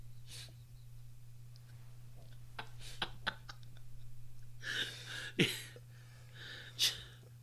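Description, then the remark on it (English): After a few faint clicks, a cluster of harsh, breathy coughs breaks out, peaking in one loud burst, followed by a final single cough over a steady low hum. “I couldn't reach the cough button there on time.”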